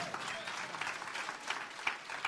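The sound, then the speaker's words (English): An audience claps steadily, a dense wash of many hands with a few sharper, louder claps standing out, with faint voices mixed in. “If you're gonna clap, clap.”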